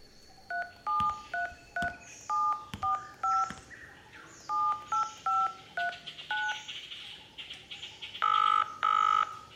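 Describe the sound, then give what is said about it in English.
A rapid sequence of cell phone keypad tones, short two-pitch beeps pressed one after another in an uneven rhythm, followed by two longer, louder tones near the end, with no talking. “Bingo! Cell phone.”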